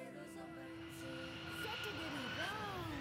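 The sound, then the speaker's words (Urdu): An airplane sound effect in a quiz show, as the plane carrying The Ocean School team arrives in Iran: a steady engine drone holding a whining tone that bends and sweeps in pitch toward the end, loud and continuous for about three seconds. “the ocean school کی team کو لے کر جہاز سفر کرتا ہوا پہنچ گیا ہے ایران,”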